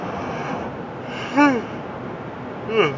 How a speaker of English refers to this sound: Excuse me, I'm sorry for yawning, guys.